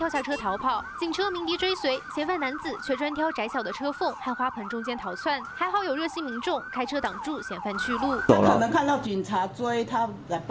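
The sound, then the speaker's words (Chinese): A police car siren yelps in quick, repeating rising-and-falling sweeps for the whole stretch, loud, with a brief noisy burst near the end, as the police car chases a fleeing suspect on Zhongshan Road in Hualien. “警车鸣笛追随，嫌犯男子却专挑窄小的车缝和花盆中间逃窜，还好有热心民众开车挡住嫌犯去路。”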